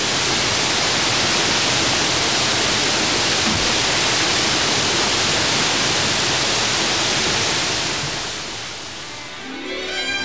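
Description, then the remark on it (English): Niagara Falls, the massive waterfall between Lake Erie and Lake Ontario, roars in a steady, dense wash of noise, loud, continuing unbroken before easing slightly near the end. “In between Lake Erie and Lake Ontario lies one of the world's greatest natural wonders, Niagara Falls.”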